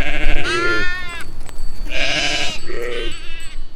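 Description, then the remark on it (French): Sheep bleat, three wavering, nasal calls in quick succession, the middle one longest and loudest, with no voices in between. “J'aime les animaux, tout ça, les chèvres, les brebis.”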